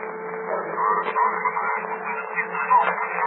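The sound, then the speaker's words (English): A thin, tinny murmur of many overlapping voices comes through a loudspeaker attached to open telephone lines in a city, steady and indistinct like crosstalk, with a faint low hum underneath and no single clear speaker. “Come on, it sounds like a thousand people talking or whispering.”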